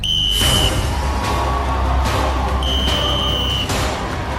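Two shrill, high-pitched referee whistle blasts, a shorter one followed about two seconds later by a slightly longer one, over a steady roar of crowd noise.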